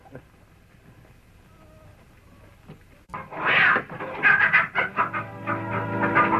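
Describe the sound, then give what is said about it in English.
Chickens squawk in distress: after a few seconds of near-silence, loud, harsh, high-pitched cackling erupts in rapid, irregular bursts and continues frantically to the end. “Someone's after the chicken.”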